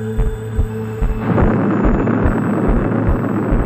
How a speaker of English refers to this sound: Watched from a safe distance, this explosion is one of the most beautiful sights ever seen by man.